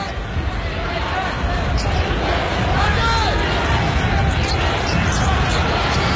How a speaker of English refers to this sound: And the Spencer County crowd to our left beginning to come alive as they have cut the lead to four.